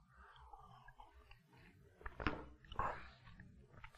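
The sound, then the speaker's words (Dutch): Someone takes a quiet sip of a drink, with soft wet mouth clicks and a swallow standing out from near silence. Nobody speaks. “Slokje pa.”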